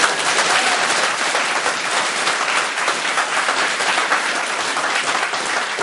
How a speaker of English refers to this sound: I just want to make sure that everybody gets a big round of applause